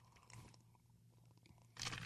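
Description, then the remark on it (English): Someone sips a Defender Coffee iced coffee, with crunchy, rattling bursts from the ice at the start and again near the end, over a low steady hum and no talking. “Let me take a sip of this coffee again.”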